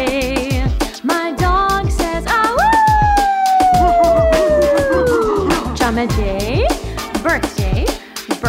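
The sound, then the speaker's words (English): A dog lets out a long, loud howl as a birthday greeting, the howl slowly sliding downward in pitch, then rising into a short second wail, over busy background music with rhythmic beats. “My dog says, to you, Jam and Jay.”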